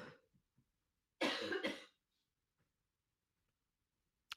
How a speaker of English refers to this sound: Ruh-roh, she won't stop coughing. Let's hope it's just the sinus infection kicking back in.